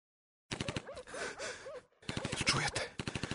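Distant gunshots from a firing squad crack in two rapid bursts of repeated shots, with a brief pause between them, while a voice gasps and groans over the firing.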